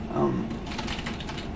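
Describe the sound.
Rapid, irregular clicking of keys on a computer keyboard, moderately loud, typing text into an on-screen text box, following a brief snippet of voice at the start.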